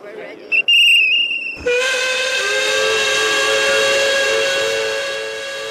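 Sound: steam train whistle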